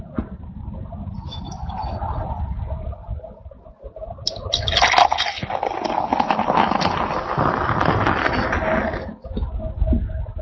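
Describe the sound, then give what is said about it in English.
Märzen beer pours into a glass, a steady rushing, splashing gurgle lasting about five seconds before cutting off, preceded by softer low handling noise and no talking. “Here goes the pour.”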